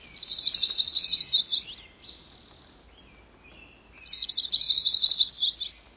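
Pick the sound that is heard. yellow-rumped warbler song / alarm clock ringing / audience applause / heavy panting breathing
yellow-rumped warbler song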